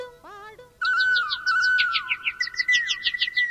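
Birds chirp and sing in quick, bright bursts, a rapid string of high tweets running over a steady whistling tone. The chirping is close and fairly loud, with no talking.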